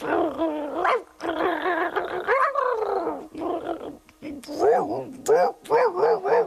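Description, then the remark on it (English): A person's voice imitates a pack of about five dogs, rapidly yapping, barking and growling in overlapping bursts for several seconds, loud, with raspy, wheezy textures mixed in, one of the dogs portrayed as having emphysema. “Because you would figure that it wouldn't be that bad, but Ralph took off and met up with about 5 other dogs, and... Oh, I can't do 5 dogs. I can. Okay, do it.”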